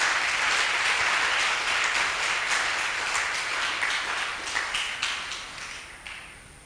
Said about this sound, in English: I think we should clap to God's glory.